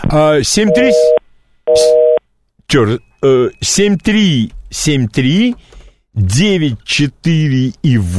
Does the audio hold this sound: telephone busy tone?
yes